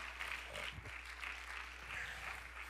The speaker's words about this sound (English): Somebody give the Lord a hand clap of praise.